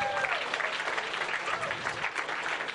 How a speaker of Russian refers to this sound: Давайте под аплодисменты. Давайте аплодисменты, да.